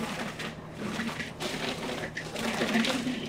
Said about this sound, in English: All right, so this sherbet recipe has two ingredients. This mango here. We're going to add 1 cup of vanilla Greek yogurt. And then a little bit of water. Okay, we'll blend this up.